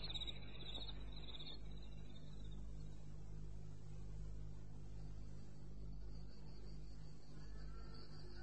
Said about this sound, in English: and left the farm to the crickets and the night birds.